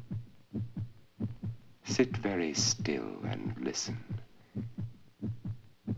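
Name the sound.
human heartbeat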